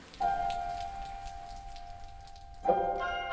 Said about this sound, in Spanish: Cuando llueve, no tengo dónde cobijarme.